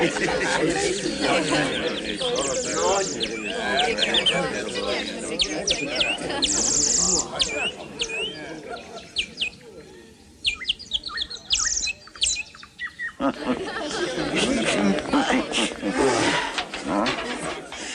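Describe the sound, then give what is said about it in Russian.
A bear named Mikhail Potapych gives a deep, rough roar that rumbles loudly, rising and falling over several seconds, with voices talking and faint bird chirps mixed in around it. “Каково? Медведь? Да, медведь.”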